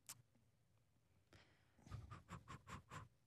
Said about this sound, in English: Clicking away. Click.